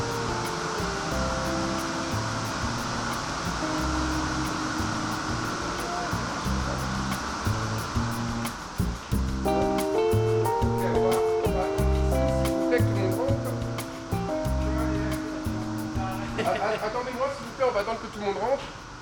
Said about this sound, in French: il va capter la poussière, aspirer la poussière, pour faire en sorte que les personnes qui travaillent ici et les machines aient des conditions de travail